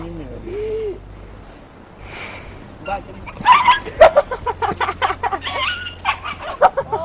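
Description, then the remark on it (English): A dog yelps in a rapid, frantic series of sharp, high-pitched cries as it is swung around, fairly loud, after a quieter opening with faint voices in the background. “Like, the fact that the dog is yelping doesn't bother me so much.”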